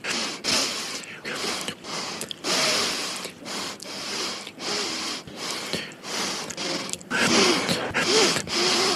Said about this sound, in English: What is with all the sniffing? I don't get it. I don't know exactly what. It literally makes me feel physically ill to hear you sniffing all the time. What is the problem?